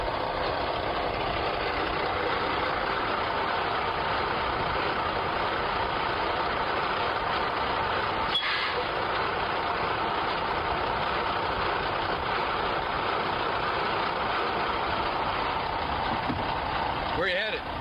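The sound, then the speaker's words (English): A truck engine idles with a steady, loud, unbroken rumble for the whole stretch, interrupted only by a brief clunk partway through and another near the end. “Hey, stop the truck.”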